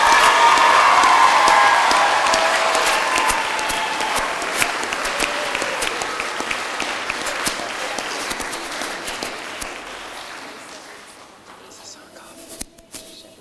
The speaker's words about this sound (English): This is our kindergarten class of 2017. Let's clap for them.